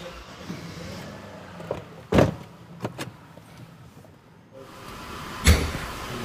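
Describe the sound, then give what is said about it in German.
A classic car is driven outside, its engine rumbling low and steady, with a few sharp mechanical clunks and knocks at irregular intervals over the engine noise. No one speaks. “Ich fahre den mal da draußen hin.”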